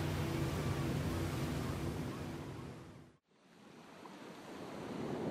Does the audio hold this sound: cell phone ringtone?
no